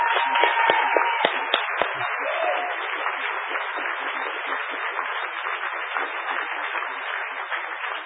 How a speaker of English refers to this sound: So I would say an extra hand of applause for the people who did this project.